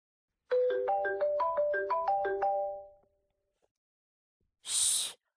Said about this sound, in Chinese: 嘘，我先接个电话。